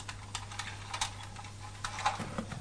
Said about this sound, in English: It's trying to make equal noise. Watch. It still makes a bit of a noise, but it's only a clicking noise, isn't it? It's not a loud sound.